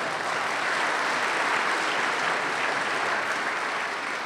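audience applause

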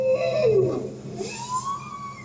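bowhead whale vocalization

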